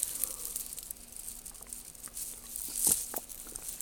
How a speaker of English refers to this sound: Excuse the drinking noises.